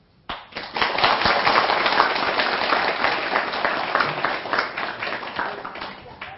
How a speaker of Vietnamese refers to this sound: Nếu các anh chị thấy những bài mới này là làm được, là xin dâng cao tràng pháo tay để phát nguyện.